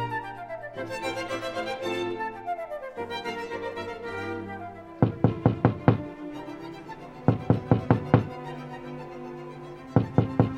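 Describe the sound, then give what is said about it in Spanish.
Soft instrumental music plays, then firm knocking on a door comes in quick bursts of five or six raps, repeated three times with short pauses, loud over the music. “Oigan, oigan, ¿qué no hay nadie que me abra la puerta?”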